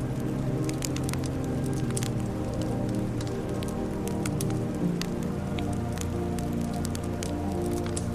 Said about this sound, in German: Du lauschst. Der Wind hat sich gelegt, der Fluss rauscht gleichmäßig. Es klingt fast wie eine Stimme, nicht laut, eher wie ein fernes Summen.